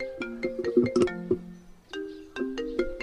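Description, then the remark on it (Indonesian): A mobile phone ringtone for an incoming call plays a quick, bright melodic phrase of electronic notes, pauses briefly, then starts repeating the tune, clear with no talking. “Suara ponsel milik Bakir berdering.”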